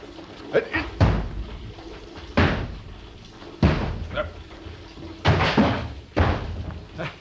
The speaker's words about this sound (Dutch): Zo krijg je die deur nooit open. Ga eens opzij. Dan trap ik het slot kapot.